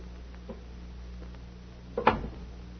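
door being opened

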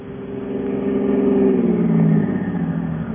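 car engine revving

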